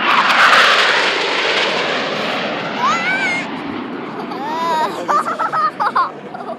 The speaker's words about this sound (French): C'est joli, je trouve que c'est très haut. Ben ouais, c'est vrai que c'est très impressionnant de voir ces avions. On les entend parfois s'entraîner un peu là autour, mais là, c'est pour nous, alors c'est sympa, voilà, effectivement.